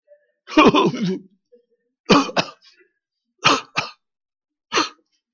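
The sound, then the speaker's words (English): A rough throat clearing followed by a series of sharp, loud coughs, several coming in quick pairs, with short pauses between them and no talking. “She was coughing her head off, praise God.”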